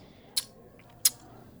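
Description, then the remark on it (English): Two short, airy sips of beer with whole red currants floating in it, about two-thirds of a second apart, quiet against a faint hush, with no talking. “We're sipping.”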